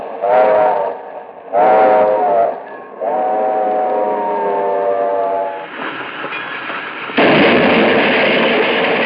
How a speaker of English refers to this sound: The alert eye of the engineer caught a peculiar gleam on the rails ahead. A piercing shriek from the engine's whistle split the air.